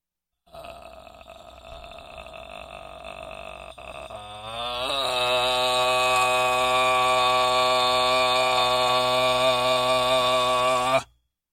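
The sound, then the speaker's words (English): A voice demonstrates a vocal fry exercise: a low, creaky fry like a creaking door, which is not a speaking or singing tone, then slides up into a louder, steady buzzing tone held for several seconds before stopping abruptly. “Remember with the vocal fry that that's not actually a vocal tone. So it's not like a speaking or singing tone to get that creaky door sound.”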